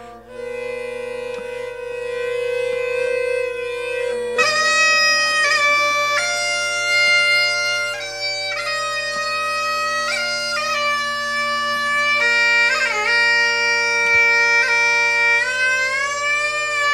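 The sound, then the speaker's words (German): Eerie howling wind around a lonely hut, made of sustained, layered whining tones that shift pitch in slow steps and swell slightly, staying steady and fairly loud throughout with no voices. “Also das komische Geräusch, das ist der Wind, das ist die furchtbare Atmosphäre.”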